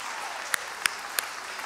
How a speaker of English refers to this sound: If you are a grandparent, which, by the way, did you know today is Grandparents' Day? I think we need to have every grandparent stand to their feet and let's give them an honorable clap. And come on, grandparents.